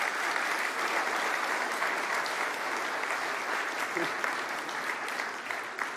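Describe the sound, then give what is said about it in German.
A big round of applause, dense steady clapping from many hands sustained at a loud, even level for the full six seconds. “Ja, ich denke, einmal einen großen Applaus für euch.”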